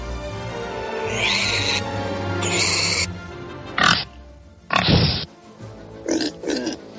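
A pig squeals in two drawn-out bursts, then grunts and snorts several times in short bursts with brief pauses between them. No one speaks.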